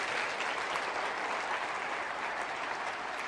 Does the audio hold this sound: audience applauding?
yes